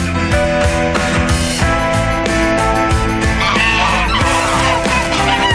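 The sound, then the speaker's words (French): Loud, overlapping honking from a group of ganders (male geese) packed together that had tried to attack a person, harsh and aggressive, with a constant dense din of squawks and blaring calls running through the whole stretch. “Ça, c'est pas des canards, ça. C'est des jarres.”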